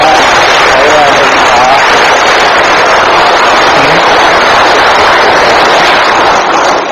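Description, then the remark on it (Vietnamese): Sustained applause from a Buddhist audience honouring a nun, a dense, steady wash of many hands clapping at once, loud and continuous for several seconds without pause. “Thầy xin đại chúng tặng cho sư cô một tràng pháo tay.”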